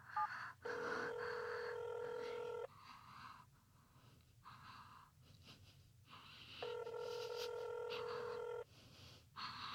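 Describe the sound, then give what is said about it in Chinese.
A call placed from a mobile phone to its owner's number rings out on the line before being transferred to voicemail. Two long, steady electronic ringback tones, each about two seconds, are separated by a pause, with a faint low hum underneath and no talking. “用我的手机打的话，主人一定会接的哦。”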